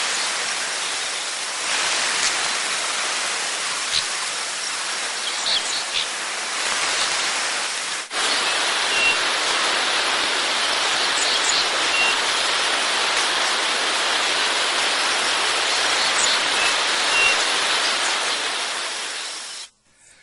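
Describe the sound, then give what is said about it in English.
A huge flock of dickcissels coming in to an evening roost, thousands of high chirps blurring into a dense, steady hiss almost like rain, loud and unbroken for about twenty seconds before cutting off. “This is a little video clip of Dick Sissels coming in to an evening roost.”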